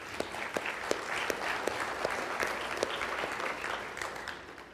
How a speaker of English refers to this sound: And I just want to say the team and the leaders who help oversee those things, they do a fantastic job. I'd love to give them a round of applause for all that they do.